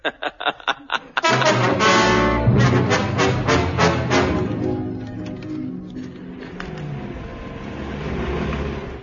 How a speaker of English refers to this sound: Dawn, and the 4th Armored Thunderboxes prepare for the long journey home. Are the lorries warmed up? Yes, you had them in the oven all night.